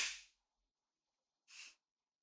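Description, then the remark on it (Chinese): Two sharp, bright slaps across the face, a wife slapping her husband, about a second and a half apart, each a crisp smack that fades quickly, with silence between and no voices. “怎么被自己老婆这样扇耳光，很爽吗？”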